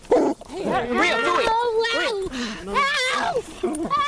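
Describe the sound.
A police dog barks and yelps loudly in a tense burst over about four seconds, in the dark as Rio Vista officers try to take a woman into custody, while people's voices cry out and shout over it.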